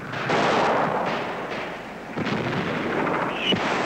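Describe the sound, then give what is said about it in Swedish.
A dense, continuous roar of gunfire from fighting in Tornio, about 600 metres away, with rumbling booms and sharp cracks, and a brief high whine of bullets ricocheting around Swedish observers near the end. No one speaks. “Direkt eld och rikoschetter viner kring svenska observatörer.”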